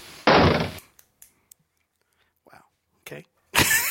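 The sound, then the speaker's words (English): A door is opened and shut: a loud broad thump, then a few soft clicks and faint rustling, and another loud burst of noise at the end. “That's not the closet. It's the wrong door.”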